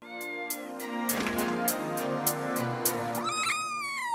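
A kitten meows in high, drawn-out mews, ending with a sharp rising cry, heard over steady rhythmic music with regular percussive beats.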